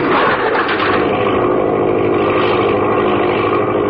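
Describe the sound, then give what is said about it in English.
A loud, steady aircraft engine roars at top speed before a catapult launch, a dense continuous drone with a fast rough pulse that holds unbroken for several seconds, with no voices. “The engine racing at its top speed, the air compressor tank ready to expend its force, Ellison's hand is lowered.”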